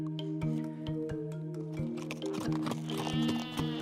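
Sheep bleat in steady, overlapping calls, like a small flock, with faint tapping hoofbeats scattered underneath. No one speaks.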